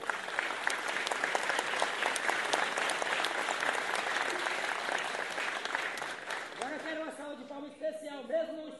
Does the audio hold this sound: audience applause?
yes